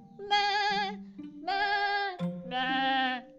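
Three wavering bleats from a billy goat, each a loud, nasal cry with a trembling, vibrato-like pitch, repeated in quick succession with short pauses between them.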